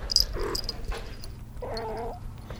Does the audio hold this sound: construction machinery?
no